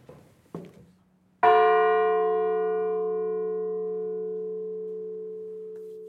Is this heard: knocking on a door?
no